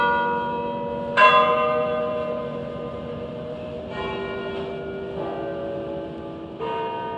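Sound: church bells tolling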